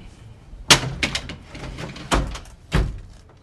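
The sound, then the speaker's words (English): A kicked-in, wrecked door is shoved aside with several loud, scraping bangs and knocks spread over a few seconds, with low rumbling between the impacts and no voices. “Fox crosses the street and gets ready to shove aside the wreckage of the door”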